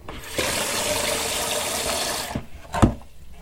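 A steady rush of running tap water pours into a water reservoir for about two seconds, then cuts off, followed by a couple of sharp clunks.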